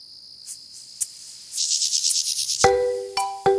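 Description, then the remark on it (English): A mole cricket gives a steady, high churring trill, followed by a run of rapid pulsed chirps and then some brief clear tonal notes, with no voices. “but they heard this noise, they realised it was a mole cricket, and they then, after looking around, found there was a population of 20 or 30 of these things which had gone undetected for 20 years, and that's the only population known in the UK.”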